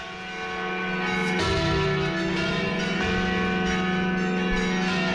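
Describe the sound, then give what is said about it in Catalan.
Church bells rung by hand clang in an overlapping, uneven peal, strikes landing about once a second with long shimmering resonance filling the gaps, loud with no voices. “Doncs mira, avui parlem, com has dit, de campanes, més concretament del repic manual de les campanes, que perquè us en feu una idea, són així.”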